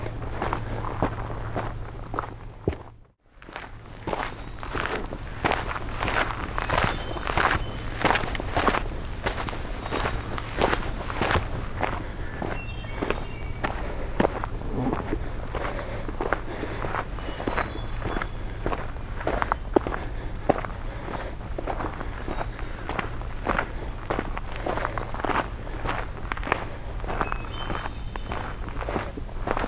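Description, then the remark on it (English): Footsteps crunch along uphill in the dark at a steady walking pace, each step a crisp, regular thud, over a constant low hum that briefly cuts out near the start. “Got quite a bit of uphill in the dark to go here.”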